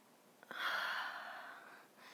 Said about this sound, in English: You like me breathing on your cock?